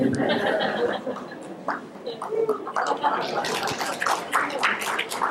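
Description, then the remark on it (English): Wet gulping and swallowing as a speaker pauses a Bible reading to drink water, a run of irregular liquid throat sounds with small breaths between, loud and alone with no talking. “We'll stop here. First, because I need a drink of water.”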